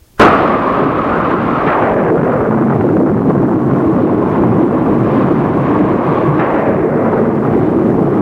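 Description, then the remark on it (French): A loud thunderclap bursts in and rolls into a heavy, continuous rumble of thunder that fills the whole stretch, with no voices. “Cette apparition au milieu de l'orage fit peur à Diane.”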